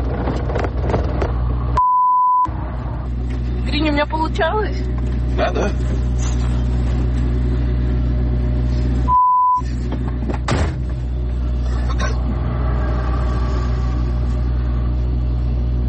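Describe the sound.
A car engine is started and runs with a steady low rumble and a few revving swells, broken by two short electronic beeps, while people talk over it.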